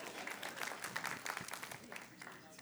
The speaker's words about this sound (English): See, y'all should have clapped on that so he'd know he had brotherhood. Y'all just acknowledge that.